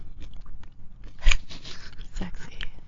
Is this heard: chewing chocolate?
yes